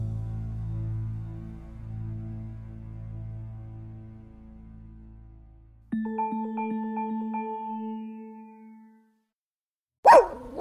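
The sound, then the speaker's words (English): A steady low hum gives way to a sustained tonal ringing, then after a brief silence a dog lets out a single loud bark right at the end. “You hear that? Your dog knows.”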